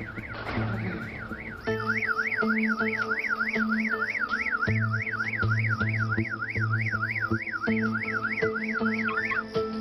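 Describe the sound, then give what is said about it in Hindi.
A vehicle sounds a loud, continuous warbling siren-like tone that sweeps rapidly up and down over a low engine rumble, steadily for several seconds without any talking. “गाड़ी की आवाज है, माफ कीजिएगा।”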